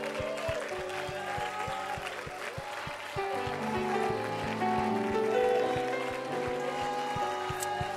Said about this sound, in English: Let's give the Lord a good hand clap of praise.